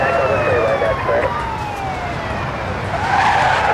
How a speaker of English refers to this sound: Suddenly, a wall of screaming sirens and flashing lights appears in the distance. The Houston police force joins the chase.